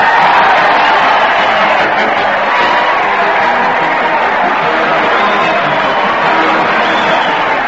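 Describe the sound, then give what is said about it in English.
A large crowd at the old Town Hall jumps up and down and cheers as Fred Allen leads his weekly parade, a loud, steady roar that holds for several seconds, with scattered whoops rising above the dense wash of voices. “Listen to that crowd. They're jumping up and down and cheering as Fred Allen leads his weekly parade at the old Town Hall.”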